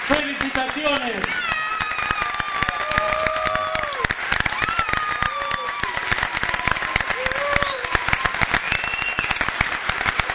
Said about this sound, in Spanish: Ellos son presidente del honorable Consejo Deliberante, concejales, autoridades presentes, señor intendente Eduardo Tesori, el aplauso en este momento histórico que estamos viviendo con las nuevas autoridades.